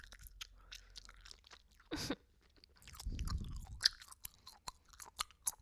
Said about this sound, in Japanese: あなたの耳の真横でガムをくちゃくちゃ食べてるところをちゃんと想像して。マイクをあなたと思ってガム噛んでるから。ちょっと噛む音早くするよ。